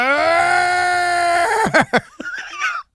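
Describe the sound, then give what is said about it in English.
A voice imitates the frustrated, angry yell of Mets player Pete, fist clenched and eyes closed, the day after the Mets were eliminated: one long, loud, strained cry held for over a second, then breaking into a few choppy, sputtering bursts before cutting off. “And he puts his balls in the fist, and he closes his eyes and yells.”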